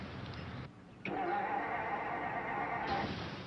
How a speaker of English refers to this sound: Well, I don't know what's wrong. Nothing seems to be working. Can't even get the car started.